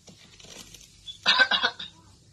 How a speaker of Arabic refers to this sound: شوف شوف هنا هذا الذي تنحنح